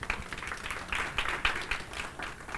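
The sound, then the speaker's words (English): An audience claps together for the Lord in a dense, steady burst of applause, many overlapping hand claps forming a bright, crackling wash with a few sharper accents, lasting a couple of seconds. “Come on, get a Lord a hand clap.”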